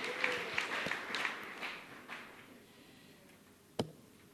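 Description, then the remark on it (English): An audience applauds, the clapping dense and fairly soft at first, then thinning and fading away over a couple of seconds before one sharp, isolated click. “Come on, let's give them an applause as they tune in.”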